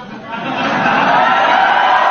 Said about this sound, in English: That's the press cheering.